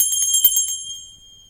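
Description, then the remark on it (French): A small hand bell is shaken rapidly to call for servants, giving a quick flurry of bright, high-pitched clangs before its tone rings on and fades away. It sounds fairly loud, with no voices. “Bah, ils n'entendent point et ma sonnette ne fait pas assez de bruit.”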